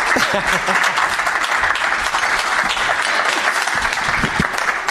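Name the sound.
audience applause and cheering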